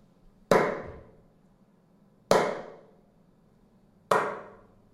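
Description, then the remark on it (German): Three sharp hand claps in the room Barcelona before acoustic treatment, made as a test sequence to excite and measure the room's reverberation, evenly spaced about two seconds apart, each followed by a short reverberant tail that fades out before the next clap. No voices are heard. “Ich werde jetzt dreimal in die Hände klatschen, um den Nachhall von dem Raum anzuregen.”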